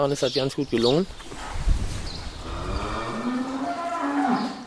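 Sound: cows mooing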